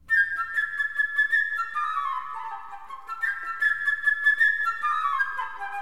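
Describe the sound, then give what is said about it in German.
A flute plays a bright, high melody full of quick chirping trills, portraying a bird flying and chirping as the bird's own instrument and melody in a musical story where each animal and person has its own instrument. Two similar phrases each flutter and then glide downward, with no voices. “Die Flöte, sie lässt den Vogel fliegen und zwitschern.”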